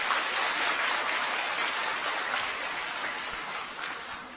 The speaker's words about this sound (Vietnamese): Hãy dâng cao tràng vỗ tay để tán dương lẫn nhau.